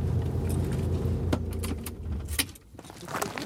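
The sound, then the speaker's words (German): A car engine rumbles low while keys jangle and sharp clicks sound as the car is parked on a patch of grass and left, then the engine drops away, leaving a few more metallic rattles. Nobody speaks. “Wir lassen das Auto stehen und schlendern ein paar hundert Meter durch die Landschaft.”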